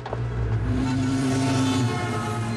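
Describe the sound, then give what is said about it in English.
Steady, loud traffic noise from a busy city street, with a constant low engine rumble and droning motor hum washing past, and no voices. “Traffic thunders by as Jimmy strides along a busy city street.”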